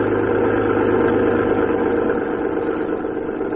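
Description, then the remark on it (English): An early motor car engine idles steadily, a continuous low rumble with a faint rhythmic chug that holds level throughout, with no voices. “The age of the motor car was here.”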